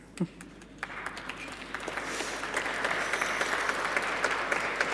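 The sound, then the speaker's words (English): Applause from an audience starts as a few scattered claps, then swells into a steady, dense patter of many hands that keeps building through to the end. “Thank you, brave applauders.”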